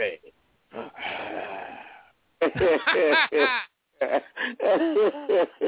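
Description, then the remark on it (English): Heavy, rasping breaths sound over a thin, phone-like line as someone breathes into a phone: first a long noisy exhale, then several loud, voiced, wheezy pants into the mouthpiece, like someone imitating heavy breathing. “That means you're talking in the phone and then breathing into the phone.”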